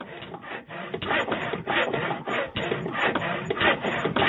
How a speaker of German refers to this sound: Die Geräusche von Sägen, Sägemaschinen und Bohrmaschinen sowie der Duft von Holz sind eng mit den Bewohnern in den Tischlerdörfern im Südwesten verbunden.